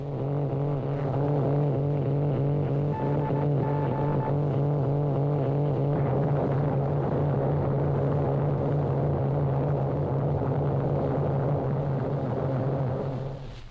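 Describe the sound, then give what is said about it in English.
Direct radio jamming interference fills the channel: a loud, steady droning buzz with a low hum and warbling, wavering overtones that continue unbroken for about fourteen seconds. No one speaks. “Now, here's what direct jamming sounds like.”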